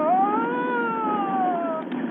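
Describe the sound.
A man's voice imitates a police siren: one loud, sustained wail whose pitch sweeps up quickly, then slowly glides back down over about two seconds before cutting off.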